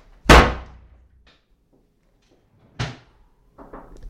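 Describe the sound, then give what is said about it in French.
A door slams shut with a sharp, heavy bang, followed a couple of seconds later by a second softer thud and a few faint knocks as it settles. No one speaks. “Fermez la porte.”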